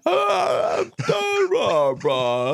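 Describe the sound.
A close voice drags out garbled, groaning words through a yawn, in three stretched bursts with brief breaks, the speech warped and barely intelligible.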